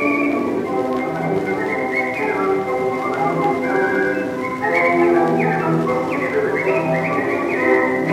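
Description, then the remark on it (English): A bright, cheerful march tune whistled in quick, bouncy phrases, carried steadily over full instrumental accompaniment and clearly audible throughout, with no talking. “Certainly one of the most cheerful things ever recorded, and … whistling away.”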